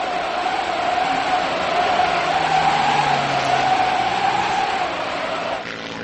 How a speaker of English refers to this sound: In bad weather like this, we might never get the plane back to land. But we've got to get to Barrow. More lives than our own depend on it. I'll get you there, Doctor, in spite of this blizzard.